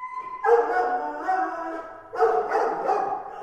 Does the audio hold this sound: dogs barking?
yes